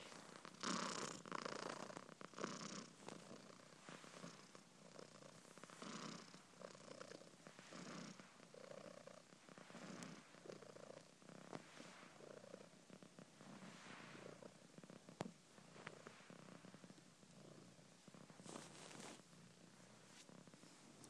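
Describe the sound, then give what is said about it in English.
Maya, a female tortoiseshell domestic cat, purring loudly, a steady rumbling vocal-type purr with a raspy edge, rising and falling with each breath for about twenty seconds, no talking. “But she purrs with a bit of a vocal type purr, and I'm going to give you a blast of what Maya sounds like.”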